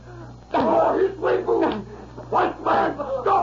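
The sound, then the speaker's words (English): Dogs yelp and cry in a string of about six loud, high-pitched bursts as a man lashes them with a dog whip, sharp cracks mixed in among the yelps and a low steady hum underneath. “Oh, he's whipping!”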